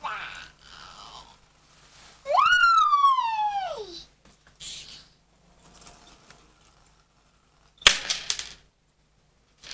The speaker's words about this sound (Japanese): あ、ピーポーお家の中まで入ってきちゃった、どうしよう